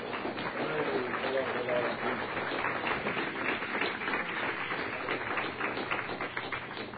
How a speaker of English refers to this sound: Let's praise Him with a clap offering.